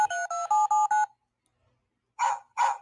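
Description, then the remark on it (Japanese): A quick run of five telephone keypad tones, each a short steady dual-pitched beep, followed after a pause by two brief, rougher bursts of sound. “これ電話だ。”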